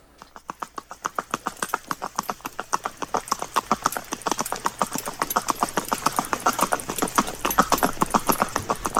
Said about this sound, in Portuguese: Vamos dar um passeio a cavalo, marchando, nesse saboroso ritmo da marcha?